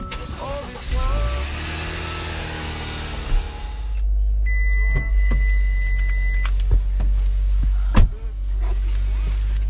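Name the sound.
car driving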